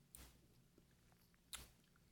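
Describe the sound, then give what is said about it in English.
Two soft, wet chewing crunches of raisins in a raisin swirl, about a second and a half apart, with a faint low hum and near-silence between them and no talking. “As soon as I bite into it, I'm confronted by the problem that I have every time with What's these that? Raisins.”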